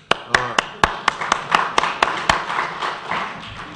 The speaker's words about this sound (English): Kind of tepid applause on that one.